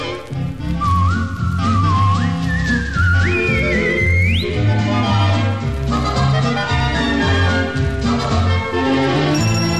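A person whistles a bright tune that climbs upward in slides and steps, clear and close, over a busy instrumental backing with steady low rhythmic notes.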